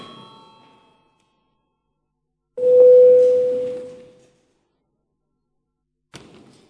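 signal or alarm, parliament session bell ringing

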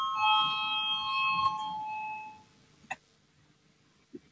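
signal or alarm, parliamentary voting bell chime

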